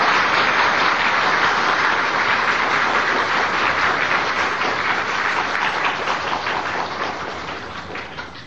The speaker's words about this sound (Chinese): 现在我们以感激的心情，最热烈的掌声来恭请我们师父开示。现在我们鼓掌请师父开示。